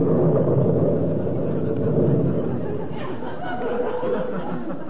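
A loud, sustained roll of thunder rumbles through the whole stretch, deep and broad with a steady, grinding texture and no distinct single crack.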